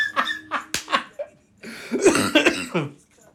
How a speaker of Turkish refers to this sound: Öksürüyorum.